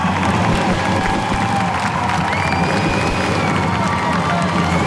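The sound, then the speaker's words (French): A dense, lively crowd roars steadily outdoors at a street rally at la Comédie around 11:15, a continuous wash of many voices with cheers and shouts rising through it and scattered bursts of clapping. “Donc une foule très dynamique, vous l'entendez, qui s'est lancée ensuite depuis la com vers la gare, hein, sur un parcours de cortège assez classique, noir de monde, hein, quand même, il faut le dire.”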